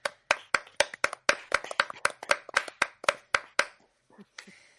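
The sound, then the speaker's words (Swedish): A short burst of hand clapping, a dozen or so sharp claps in a quick, slightly uneven rhythm from a few people, applauding a second-place finish, fading out into near silence at the end. “Men att ha i alla fall en på topp två, det förtjänar ändå en applåd tycker jag.”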